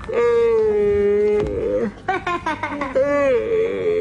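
Children, asked to do a big yawn, let out long, drawn-out exaggerated yawns, voiced moaning tones that slide in pitch, with several voices overlapping in a ragged chorus before trailing off.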